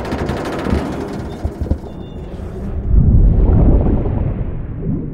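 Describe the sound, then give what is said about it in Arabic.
A submarine implosion sound effect, the hull crushed by outside water pressure greater than the pressure inside: crackling, creaking bursts build into a deep, heavy rumbling boom that swells and lingers, loud, with no voices. “ده implosion.”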